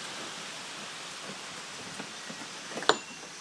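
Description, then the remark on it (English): A steady, heavy rush of wind and rain hisses throughout, with a few small swells and a sharp click near the end. No one speaks. “Hey everybody, I don't know if you can hear this or not, but the wind is getting pretty heavy. Yeah, there you go, have a nice gust.”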